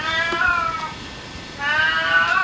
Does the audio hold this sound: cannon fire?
no